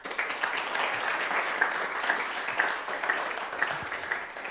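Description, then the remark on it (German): A crowd applauds steadily, a dense wash of many hands clapping at once, sustained and fairly loud throughout with no voices standing out. “Und lass uns Allah noch mal kurz einen Applaus geben, einfach.”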